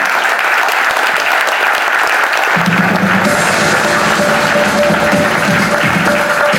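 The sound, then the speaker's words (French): An audience applauding steadily as two guests join a radio station's 40th-anniversary broadcast, a dense, loud wash of clapping that holds throughout, with a faint low murmur and hum joining partway through. “On les applaudit.”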